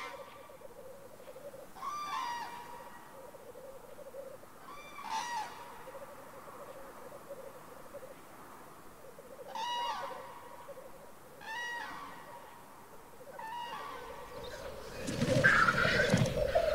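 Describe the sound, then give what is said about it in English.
A crane hen coos during courtship in the breeding grounds, signaling she is ready to mate: soft, tonal bursts repeated every few seconds over a steady low hum, moderate in volume, ending with a brief rustling noise. “The hen signals she's ready to mate through cooing and by assuming an unequivocal posture.”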